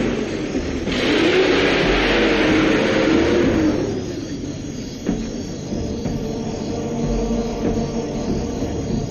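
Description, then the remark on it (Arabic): A car engine revs loudly at a crime scene, its pitch rising and falling, then fades away as the vehicle drives off, leaving quiet outdoor ambience with faint insect chirping. “انتبهي، انتبهي من السيارة.”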